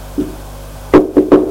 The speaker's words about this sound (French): On a frappé à la porte. Entrez!